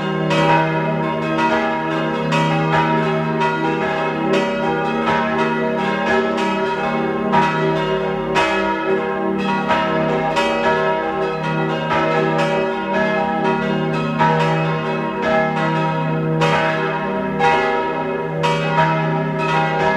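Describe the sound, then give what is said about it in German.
Several bells of the parish church of Saints Giles and Sylvester in Reith bei Kitzbühel, Tyrol, peal together at 12 noon in a steady, overlapping ring, bright strikes repeating continuously over a rich sustained hum, loud, with no voices. “Sie hören die Glocken der Pfarrkirche zu den Heiligen Ägidius und Silvester in Reit bei Kitzbühel in Tirol.”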